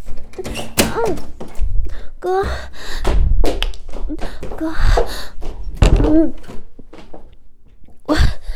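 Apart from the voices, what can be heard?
banging on a door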